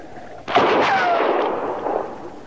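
A single sharp rifle shot cracks out of a low hiss, then rolls into a long, rumbling echo that slowly fades over a couple of seconds. No one speaks.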